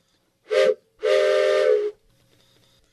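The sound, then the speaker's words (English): A steam train whistle gives two loud blasts, a short one and then a longer sustained one, with a breathy hiss to the tone, as the train leaves the station, followed by quiet background rumble. “The train? It's left the station.”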